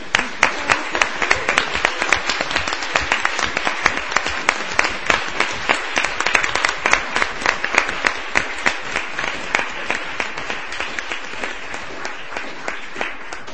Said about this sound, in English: So I feel very proud of her, and I think we should give her a round of applause and thank her.